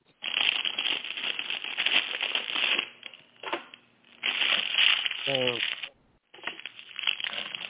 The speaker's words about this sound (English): Who is moving the paper around? Oh, sorry, that's me. I'm eating my lunch. Sorry.